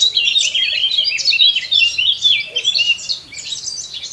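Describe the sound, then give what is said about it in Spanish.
A male Eurasian blackcap sings a bright, fluting warble in the Pas valleys just past midday, rapid high phrases tumbling continuously for several seconds, with no voices present. “El canto aflautado del macho de la curruca capirotada encuentra respuesta en ese sordo chasquido que le devuelve la hembra desde la espesura.”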